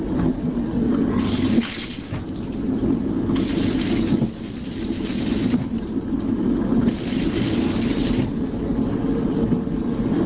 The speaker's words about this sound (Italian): Proviamo adesso ad ascoltare il suono di questo sciacquone.